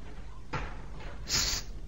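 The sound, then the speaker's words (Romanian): A balcony door opens with two soft, breathy scrapes, the second longer and brighter, heard quietly with no one speaking, as two people step out onto the balcony. “S-a deschis ușa balconului.”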